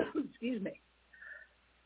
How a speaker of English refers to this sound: I didn't want to cough in everyone's ear.